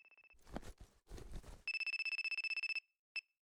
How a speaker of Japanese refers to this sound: ちょっと待って、ママから電話だ。